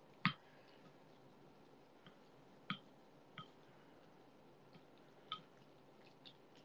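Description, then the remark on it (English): Udon noodles, loosened with water rather than boiled, are stirred into poured soup, making soft, wet squishes and clicks at irregular intervals, a few sharper than the rest, over a quiet background hiss with no one talking. “I'm mixing it up with the soup a bit.”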